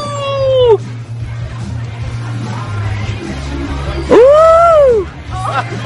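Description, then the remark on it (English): A person at a party lets out two drawn-out, wavering howls, a short one trailing downward at the start and a louder rising-and-falling one near the end, over a low background murmur and hum. “Give me a howl.”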